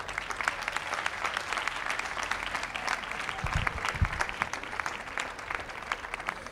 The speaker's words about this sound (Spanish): Y nada más, un aplauso para la gente y gracias, muchas gracias por venir.